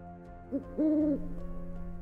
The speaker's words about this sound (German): Der Uhu rührte sich nicht, dann rief er wieder.